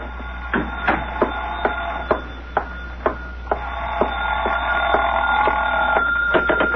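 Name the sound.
telephone ringing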